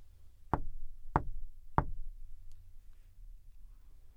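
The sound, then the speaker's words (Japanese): A girl knocks three times on the wooden door of a house in a forest, firm and evenly spaced, each knock with a hollow thud, followed by quiet with a faint low background rumble. “ドアを叩いても返事がないので、女の子はそっと中に入りました。”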